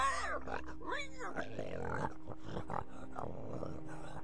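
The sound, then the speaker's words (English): A pig grunts and oinks, a quick run of snorty grunts and squealing oinks tumbling over one another for a few seconds, loud and continuous. “He was reportedly killed by a rabbit, while Philip, son and heir of Louis VI of France, was consigned to an early grave by a diabolical pig.”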